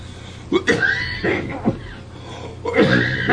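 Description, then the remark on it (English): A person coughs and clears their throat several times in quick succession, with harsh, raspy bursts separated by short pauses, fairly loud. “I think this is my cough.”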